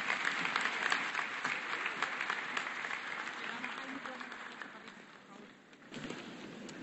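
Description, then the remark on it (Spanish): A crowd in an auditorium applauds steadily for the regional coordinator of the community authorities of Guerrero (CRAC), Mexico, dense clapping filling the space and slowly thinning before a brief swell near the end. “Un aplauso para ella, por favor.”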